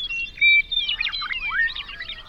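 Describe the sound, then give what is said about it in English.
Thin, high birdsong with quick chirps, whistled tones and sweeping trills, isolated from a mix with people talking and highway noise by a steep filter passing only sounds around 2.5 kilohertz, leaving a bright, tinny band of continuous song. “There's only one sound that makes it through the filter.”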